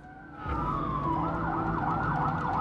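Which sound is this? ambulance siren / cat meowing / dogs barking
ambulance siren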